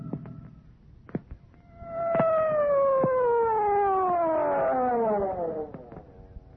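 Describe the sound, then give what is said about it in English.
A siren wails for about four seconds, its harmonic-rich tone sliding slowly downward in pitch, with a few sharp knocks and clicks around it and no voices. “But why this siren?”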